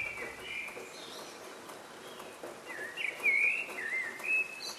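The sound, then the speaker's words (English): Many birds sing and whistle together in a dawn chorus in the early morning, in overlapping phrases, some clear notes standing out louder near the middle and end, over a soft hiss of outdoor ambience with no talking. “Birds sing out like this in the early hours of the morning to let everyone know that they've made it through the night.”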